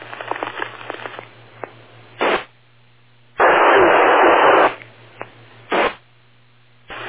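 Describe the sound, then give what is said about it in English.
A faint, garbled ham radio transmission with a weak signal, someone checking in, crackles through, broken by loud bursts of hiss and static, including a long wash of noise in the middle, with a low hum underneath. “Somebody trying to check in? N2BQ. Alright, N2BQ2. Little weak on the signal”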